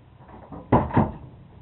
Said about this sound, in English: Let me close this door so you won't be in the draft.